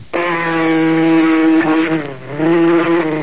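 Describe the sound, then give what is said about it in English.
A loud mosquito whine drones steadily for about three seconds, wavering slightly in pitch and dipping briefly before returning at full strength. No one speaks over it. “Now that you got rid of the mosquito...”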